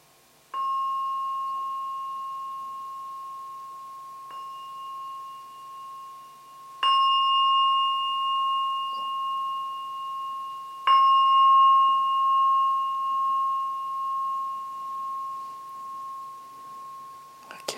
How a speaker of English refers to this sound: we'll be finishing soon. So just wait for the bell to ring 3 times.